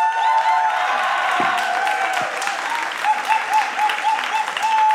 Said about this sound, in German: Also viel Spaß beim Podcast Live aus Ulm. Bitte begrüßen Sie mit donnerndem Applaus …!